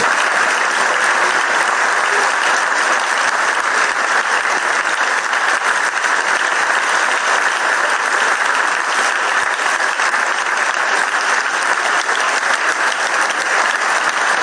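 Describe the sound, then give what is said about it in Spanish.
Long, sustained applause in the Parliament of Galicia from Alfonso Rueda's own party after he is proclaimed president of the Xunta de Galicia: a dense, steady wash of many hands clapping at an even, loud level throughout, with no clear voices standing out. “Largos aplausos por parte de los suyos, con el saludo de los portavoces del resto de los grupos.”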